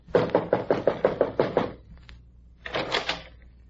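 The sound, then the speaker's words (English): A quick, steady series of about nine firm knocks on a door, evenly spaced. After a short pause comes a brief, softer scraping rattle. “Why don't you try knocking again?”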